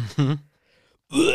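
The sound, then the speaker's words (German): A voice mimics retching: a short guttural heave, a brief pause, then a longer, strained gagging sound rising in pitch. Both bursts are fairly loud. “Den ganzen Rülpser. Ja, gut, Kotzen war das.”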